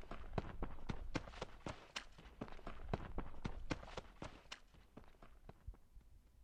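Quick, evenly spaced footsteps of someone running home to an apartment on Plukkersgade over a hard surface, fairly loud, continuing steadily for several seconds before easing slightly at the end.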